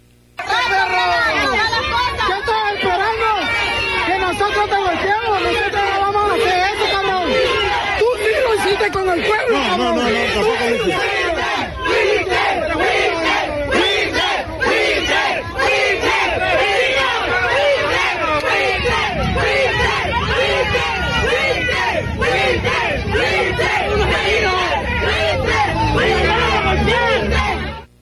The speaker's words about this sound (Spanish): A la salida, los manifestantes le gritaron buitre, sí, así lo dijeron.